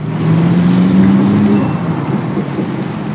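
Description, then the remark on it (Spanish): A car engine revs up with a steadily rising hum over a dense rumble of heavy traffic on election day; no one speaks. “En el día de las elecciones había un tránsito terrible.”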